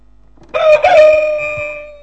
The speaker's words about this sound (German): Bevor der Hahn kräht. Und dann hat der Hahn gekräht.